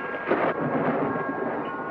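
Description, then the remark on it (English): A steady, loud rumble of thunder during a storm rolls through the whole stretch with a slightly stronger swell near the start, dense with no voices, in the prologue of the film The Bride of Frankenstein. “Come and watch the storm.”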